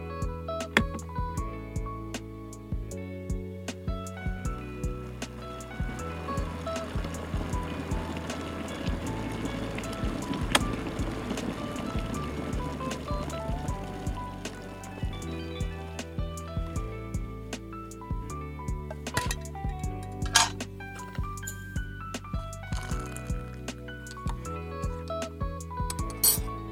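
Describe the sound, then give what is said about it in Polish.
Water is poured for tea, a steady rushing trickle swelling in the middle, with sharp clinks of a cup and spoon scattered throughout. No one speaks. “No to może wstawię wodę na herbatę.”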